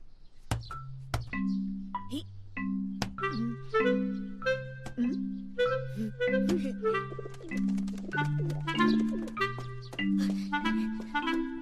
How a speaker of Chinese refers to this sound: …，你快看呐，鸽子回来了。 咦，他怎么不进去？